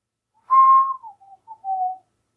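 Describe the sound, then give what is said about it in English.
A person whistles an imitation of the call of the cooey, a marshland bird: a strong steady note sliding slightly downward, then a few shorter, softer pitched chirps, ending with a wavering tone, all alone with no talking. “So, the sound of the cooey. Cooey. Cooey. The coolest bird in the marshland.”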